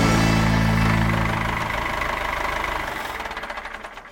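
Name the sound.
tractor engine idling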